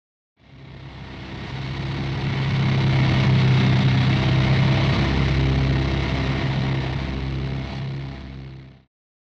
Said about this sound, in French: I can hear a plane. J'entends un avion.